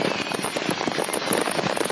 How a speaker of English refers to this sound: Are these illegal fireworks? Yeah. Kind of grows, doesn't it? This goes on for another 45 seconds.